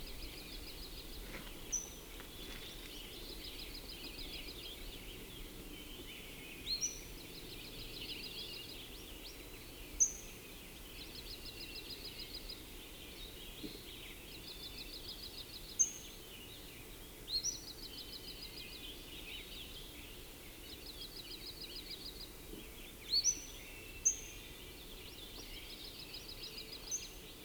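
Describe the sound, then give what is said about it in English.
Two birds calling: one gives repeated short buzzy location notes in a steady rhythm, while another adds occasional single sharp high-pitched notes, over a faint low background hum. “The single high-pitched note right then was given by one and the regular location note by another one, I think.”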